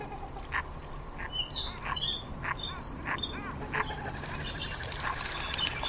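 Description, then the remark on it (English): Ducks, swans and geese splash about on the water, with scattered chirps and calls rising over a steady outdoor wash of noise. “Ducks, swans, and geese splashing in the water.”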